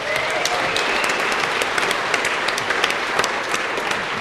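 A crowd applauds steadily, dense overlapping claps forming a loud, even wash of sound that holds for several seconds without talk.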